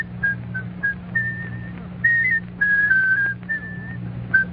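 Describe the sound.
A whistler whistles a bouncy, melodic tune on a quiz program, in short phrases of clear sustained notes, fairly loud, over a steady low hum in the background.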